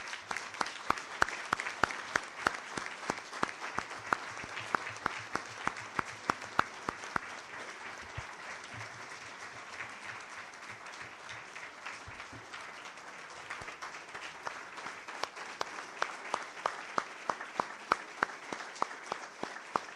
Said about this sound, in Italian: Un applauso, direi.